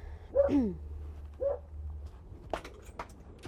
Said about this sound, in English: Some dogs barking. Oh, boy.